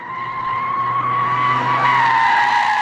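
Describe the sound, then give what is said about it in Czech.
Car tires squeal in a sustained, loud skid as a Mercedes-AMG car is driven hard, a high piercing tone wavering slightly over a low engine rumble for about three seconds, with no one speaking. “Už skoro 40 minut trápíme a gumy pálíme u dvou výjimečných automobilů.”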